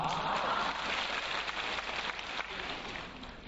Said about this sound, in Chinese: 鼓掌还不稀奇啊，我当场放给你们听好不好啊。